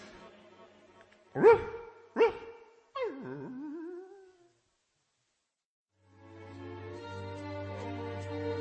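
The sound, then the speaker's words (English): Two sharp dog barks in quick succession, followed by a wavering, falling whine, then a brief silence before soft sustained music fades in. “Say goodbye to your darling doggy, Patch, and go to bed.”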